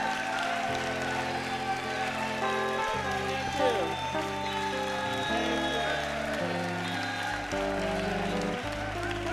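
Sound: audience applauding and cheering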